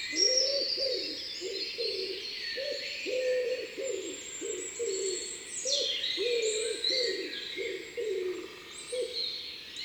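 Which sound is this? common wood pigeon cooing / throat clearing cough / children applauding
common wood pigeon cooing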